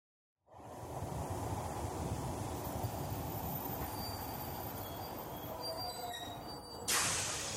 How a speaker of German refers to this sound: Mannheim Hauptbahnhof, bitte aussteigen, der Zug endet hier. Na endlich, eine Stunde Verspätung.